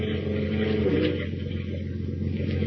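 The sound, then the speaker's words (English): The diesel engine of the Nancy Ruth, Captain Marble's fishing boat, chugs with a steady, low throbbing drone, loud and unbroken, with a faint rattling clatter on top and no voices, as the boat heads eastward toward the open sea through gray fog over choppy water. “As we continue now, we join Lois and Horatio Horn aboard the Nancy Ruth, Captain Marble's diesel-powered fishing boat.”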